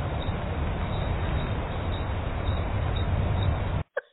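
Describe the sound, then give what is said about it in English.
Crickets chirp in a steady, dense drone, with faint regular pulses repeating roughly every half second over a constant bed of noise. The sound cuts off abruptly near the end. “Yeah, that's crickets.”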